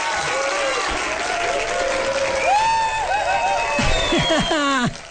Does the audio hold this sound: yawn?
no